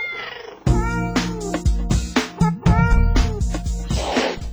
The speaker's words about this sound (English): put those cats back in their cage. Man, are they loud today. What is going on with them? It's raining.